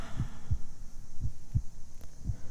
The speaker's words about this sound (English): I want you to put your head on my heart. Just listen. Listen to my heartbeat and my breathing as I hold you.